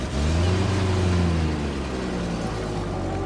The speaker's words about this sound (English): A big van arrived. It swallowed all the boxes and furniture and curtains, and it drove off.